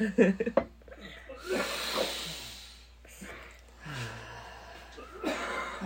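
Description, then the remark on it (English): Slow, deep breaths drawn in and pushed out, a few long airy inhales and exhales in a steady rhythm, with brief bits of voice at the start. “Keep breathing.”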